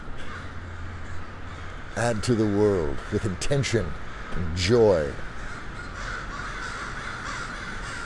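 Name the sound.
crows cawing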